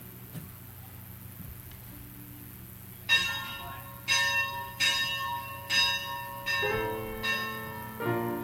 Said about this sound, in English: need somebody to ring that bell right back there.